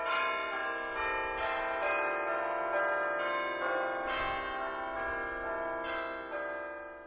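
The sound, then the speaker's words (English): A phone ringtone named Bell tower, imitating a bell tower and previewed while selecting ringtones: a peal of rich, ringing chimes struck in a steady sequence, each strike blooming with long shimmering overtones that overlap and sustain, loud, with no talking. “Bell tower. Bell tower. Selected.”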